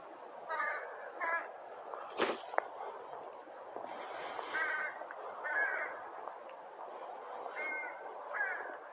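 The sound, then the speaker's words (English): Several crows caw in short, harsh bursts, often in quick pairs, scattered across the stretch over a steady outdoor hiss, with one sharp thump partway through. “These crows, what are they doing?”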